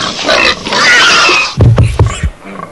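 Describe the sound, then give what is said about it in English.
A pig being slaughtered by a butcher lets out a loud, shrill squeal that lasts over a second, followed by several short, deep grunts and snorts, alone with no talking. “You ever seen anybody kill a pig before?”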